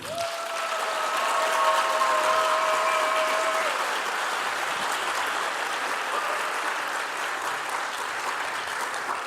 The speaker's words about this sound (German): Jetzt euer Applaus für Fine und den unsichtbaren Schluck auf.